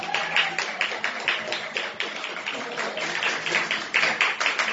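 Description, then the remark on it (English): A dense, steady wash of applause from a large crowd at Nat's Landing as the head coach of the Frederick Academy Knights joins, many hands clapping at once without letup, loud, with no clear talking over it. “That's like a loud crowd, right?”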